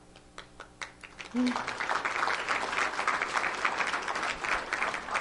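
A few scattered claps, then an audience breaks into steady, dense applause that continues loudly to the end.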